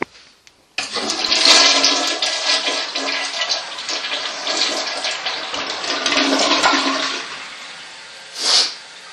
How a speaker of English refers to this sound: Now I'll get up to this toilet and flush this toilet and get on my way.